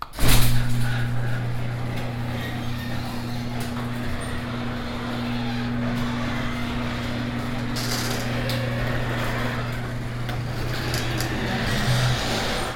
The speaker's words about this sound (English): Let's see, what else can I do? I can go out and open the garage door.